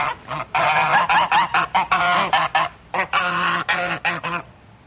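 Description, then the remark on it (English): A flock of geese raised on a small farm along a lake honks loudly and continuously, harsh overlapping calls coming in rapid bursts with brief gaps, no voices present. “She loves the small farm she has along the lake and has even taken to raising geese.”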